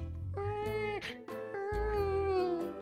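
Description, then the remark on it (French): An infant whimpers and cries in drawn-out, wavering wails, a few sustained high-pitched cries broken by short catches of breath, with no talking. “On dirait un petit qui chouine.”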